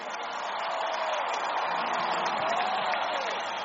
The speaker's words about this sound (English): Clap your hands, holy people. Give him a bigger clap and a louder shout of praise.